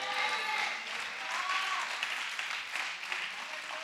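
A crowd of people claps steadily, a dense, continuous patter of applause that holds at an even loudness for several seconds with a faint murmur of voices mixed in.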